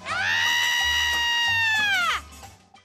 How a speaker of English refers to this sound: And some people mark International Moment of Frustration Scream Day. Will you be one of them? You know what to do.